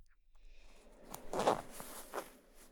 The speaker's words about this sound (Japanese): それじゃあチャック開けるね。